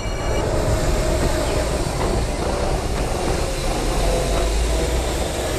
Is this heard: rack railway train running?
yes